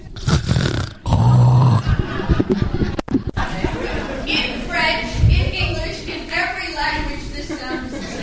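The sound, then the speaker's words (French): A man's voice imitates a deeply sleeping man snoring, with loud, rough, rumbling snorts, followed by a few softer, drawn-out vocal sounds. “Et cet homme dormait si profondément qu'il ronflait.”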